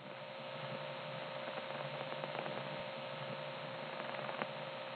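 Steady, band-limited hiss and hum of an old telephone trunk line, sounding somewhat like N1 carrier, a constant carrier-style noise with faint clicks scattered through, no voices, heard continuously for the whole stretch.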